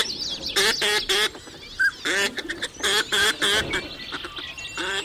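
Northern pintail ducks calling, a rapid series of loud, nasal, buzzy bursts repeating in irregular clusters, with a few thin whistled notes in between and no voices.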